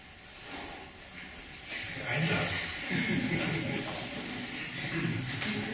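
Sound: inside a train carriage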